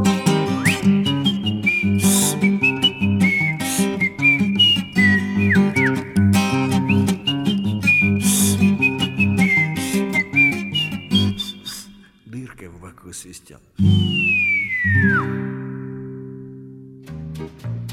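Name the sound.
whistled melody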